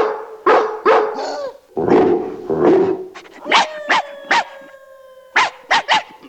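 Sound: dogs barking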